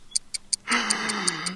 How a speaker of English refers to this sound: Well, you hear that ticking. Yes. Yeah. That ticking that I heard before that I didn't mention because it was like. Yeah. Yeah. It was innocuous but distinct. What? It's a doom clock.